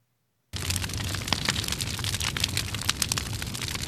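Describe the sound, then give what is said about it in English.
A fire crackles steadily after a brief silence, with dense irregular pops and snaps over a low, roaring rumble, fairly loud, with no voices. “That cozy crackling sound? It's fire.”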